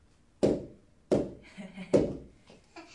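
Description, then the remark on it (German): Three heavy, dull knocks on the floor, evenly spaced about two-thirds of a second apart, each a sharp thud with a short ring, with a faint voice murmuring between the later knocks. “Kannst du auf dem Fußboden kannst du klopfen.”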